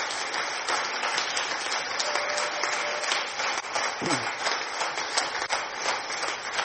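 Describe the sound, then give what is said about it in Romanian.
A church audience applauds a man who leads their worship team, with steady, dense clapping that keeps up at an even, fairly loud level for about seven seconds, a continuous crackle of many hands with no clear speech over it. “Ăsta e momentul în care puteți să-l aplaudați.”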